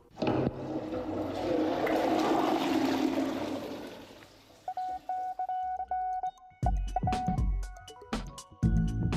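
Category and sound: household object, toilet being flushed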